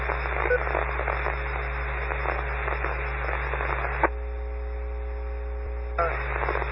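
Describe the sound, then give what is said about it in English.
Harsh, steady radio scanner interference static over a constant low hum, switching partway through to a thinner buzzing tone for about two seconds before the loud hiss returns; the interference comes from the scanner being set very sensitive to pick up weak signals. No one speaks. “All scanners are set to be very, very sensitive to pick up the weak signal. So this is the reason why you get the type of interference.”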